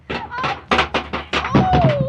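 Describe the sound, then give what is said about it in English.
A man knocked off a ladder: a rapid, uneven string of heavy thuds and clattering knocks lasting about two seconds, fairly loud, with a faint tonal ring running through the impacts. “Oh, he fell down. You knocked him off the ladder.”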